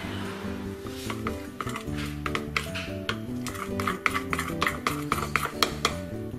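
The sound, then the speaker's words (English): A spoon mixes melted chocolate with a can of sweetened condensed milk in a bowl, making a thick mixture, with repeated light clacks and scrapes against the side, over steady background music. “Now that the chocolate is melted, get one can of sweetened condensed milk, pour it in there, and then just mix it together.”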